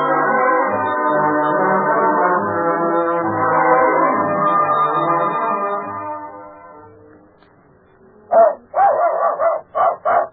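A long, droning tonal sound fades out, then after a short pause a dog barks in a quick run of four or five loud, sharp barks.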